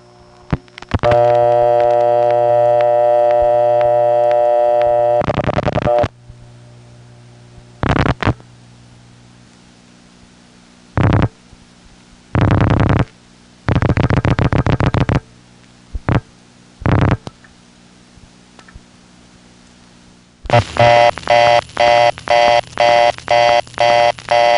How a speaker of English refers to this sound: There's a crossbar 5 unit in the downtown building which still has City Ring. It's not the one my other line is served out of, but it is the one that serves the Centrex. And now we'll get to hear the sound of a card drop close up.